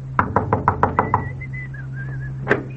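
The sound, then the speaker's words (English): A door-to-door topsoil salesman knocks on a door: a quick, even run of seven knocks, followed by a short high warbling whistle and then one final sharp knock, over a steady low hum. “Or when spring rolls around, maybe this is the one who will knock at your door.”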